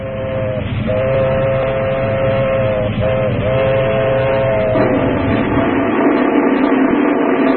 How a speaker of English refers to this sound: Lonesome train on a midnight track, wailing down the darkness. 200 souls thundering toward eternity.